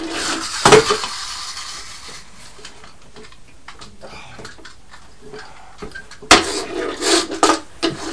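door opening

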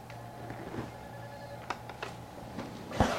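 telephone ringing

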